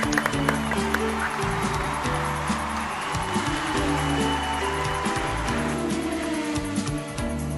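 Steady applause with a crackling, rain-like texture of many clapping hands runs throughout, over a loud bed of low, sustained music tones, with no talking, celebrating Animal Crossing New Horizons being named game of the year with 48.3%.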